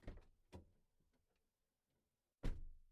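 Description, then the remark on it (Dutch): A couple of muffled thumps are followed by a louder, solid slam of a car door as a little girl and her father get out of the car. No voices are heard. “Het was de deur van een auto.”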